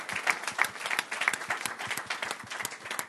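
An audience applauds steadily, many hands clapping at once in a dense, sustained patter that fills the room at moderate volume, with no voices rising above it.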